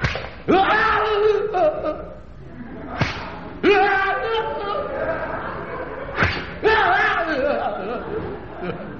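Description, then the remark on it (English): Several sharp, loud whip lashes crack at uneven intervals on a back smeared with oil as punishment, each one followed by pained yells and excited shouting from a small crowd. “Whip away”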